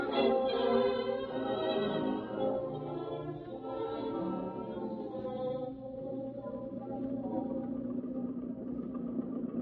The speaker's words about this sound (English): What is the matter with this car? It's going to stop again. Hanged if I know. Just a few miles a week of legal driving, and hang it all, we can't even get that without trouble. It stalled on me 3 times in the past week. It's the gasoline, I guess.